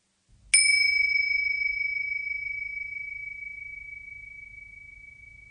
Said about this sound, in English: Become still and let the sound of the bell take your attention towards your breath.